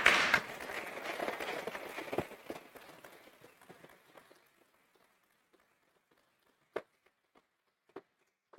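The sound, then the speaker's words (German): An audience applauds a trio of speakers after their talk, with dense, steady clapping that thins out after a few seconds, leaving a handful of scattered, isolated claps trailing off into near silence. “Diesen Applaus habt ihr euch verdient.”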